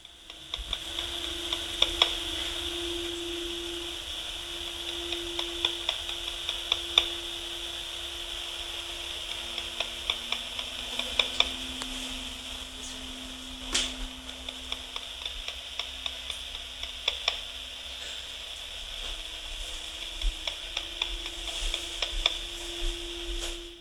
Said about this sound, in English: And this one here is clicking sounds heard through the monitor. And I don't know what this is. I've listened to this a few times and it's just clicking sounds.